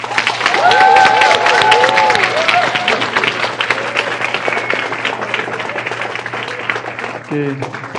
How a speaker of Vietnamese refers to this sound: Đúng rồi, thành ra mình nên cho một tràng pháo tay nữa.